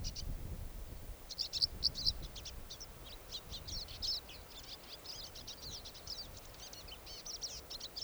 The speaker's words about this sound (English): Oh, another bird just flew up. This is a different bird. Also looks like a male.